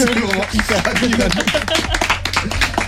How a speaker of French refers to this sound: Bah franchement, je pense qu'on peut t'applaudir parce que t'as fait la question et la réponse en même temps.